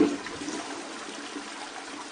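A toilet flushes with a sharp initial gush, then a steady, even rush of water that continues for a couple of seconds with no voices.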